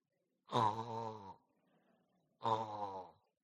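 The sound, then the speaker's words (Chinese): A voice imitates snoring with two drawn-out, rumbling harmonic snores about two seconds apart, fairly loud, with a quiet pause between them. “睡觉，打鼾声。”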